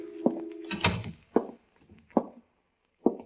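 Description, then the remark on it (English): A door latch clicks and the door of Venuti's insurance office, in a sway-back two-story building, swings open with a brief creak and a solid thump, followed by a few slow, heavy, distinct footsteps stepping inside. “I opened the door and walked in.”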